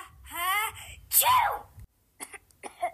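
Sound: coughing and sneezing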